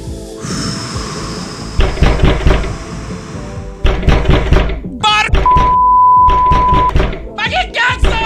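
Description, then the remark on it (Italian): Someone bangs on a truck door in several loud bursts of rapid knocks separated by short pauses, with some voice sounds in between. “continua a bussare la porta del track”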